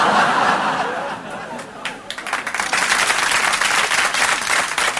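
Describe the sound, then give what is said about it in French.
A live audience bursts into applause, the dense clapping swelling and holding steady for several seconds, with a few scattered laughs mixed in near the start. “C'était un piège, j'ai les noms de ceux qui ont applaudi.”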